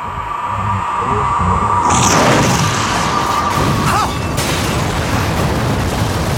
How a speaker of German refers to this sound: Mein Haus! Es ist explodiert!